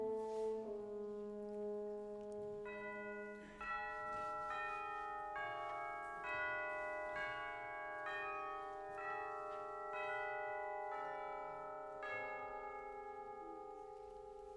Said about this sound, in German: die Glocken? Sind das Zeichen, dass unsere Geschichte jetzt beginnt?